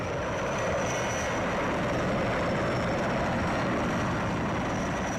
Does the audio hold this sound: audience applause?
no